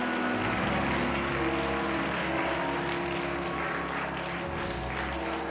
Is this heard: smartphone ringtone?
no